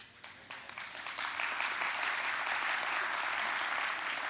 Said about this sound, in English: I want you to know today, if you're here and you're afraid, oh, these people are clapping, they're singing, they're smiling, they're weird, I don't want to become one of them.